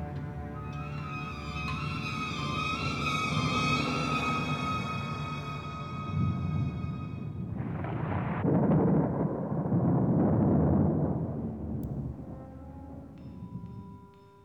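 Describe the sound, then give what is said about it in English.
Low, rolling thunder rumbles under a sustained tonal backdrop, then swells into a heavier, louder roll midway before fading back down, as a storm gathers around Count Dracula's home. “And as they ate, they heard storm gathering.”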